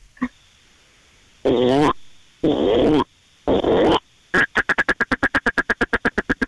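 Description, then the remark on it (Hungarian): A person imitates a frog: three loud, raspy croaks of about half a second each, followed by a rapid, steady rattle of around fifteen short clicking pulses. “mutasd a békát.”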